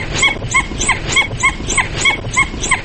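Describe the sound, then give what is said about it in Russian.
A dhole (red wolf), an endangered Russian species, gives a rapid series of about ten high, whistling yelps, each call carrying two distinct pitches at once, repeated in a steady rhythm against faint background noise. “Это не уникально для красного волка. С двумя основными частотами кричат и домашние собаки, и серые волки”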